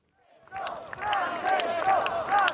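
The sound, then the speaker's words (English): A crowd of some 3,000 well-wishers gathered in front of Gemelli Hospital shouts and cheers together, many voices rising in a loud, sustained roar with overlapping calls, as Pope Francis greets and blesses them from a small hospital balcony. “waving and smiling to those below who were shouting”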